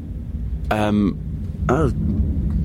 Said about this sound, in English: Is there a really strange noise going on? Yeah, there's a plane going on. Is that what it is?